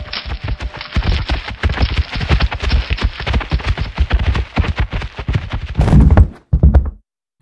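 Heavy moose hooves pound in a fast, steady gallop past a pine and up a sloping plank bridge, then a loud splintering crash and a final heavy thud as the moose slams into the log frame of a hut.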